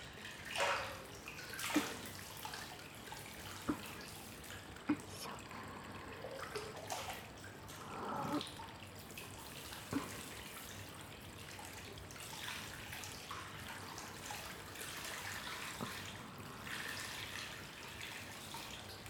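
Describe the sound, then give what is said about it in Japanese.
Hot water is poured over something to warm it up again, splashing steadily for about twenty seconds, a soft continuous wash broken by a few sharp drips and splatters, with no voices. “もう一度お湯をかけて温め直しましょう。”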